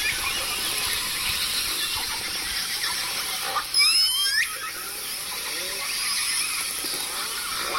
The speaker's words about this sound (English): And I spent a really amazing afternoon with him and recorded him talking about these sounds as he was listening to the calls of the whales.